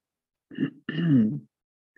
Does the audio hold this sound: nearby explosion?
no